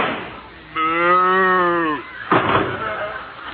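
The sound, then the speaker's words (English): A single long, drawn-out cow moo, loud, holding steady for over a second before cutting off, followed by a burst of rough, noisy sound. “Ask her. She's a cow.”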